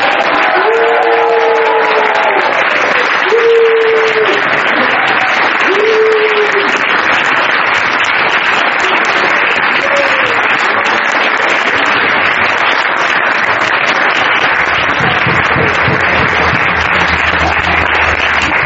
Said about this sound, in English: I'm so enlightened that I really request you all to join your hands in a roaring applause.